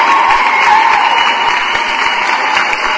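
Steady, dense applause from a group, a continuous wash of clapping that stays loud and even throughout, with no voices standing out.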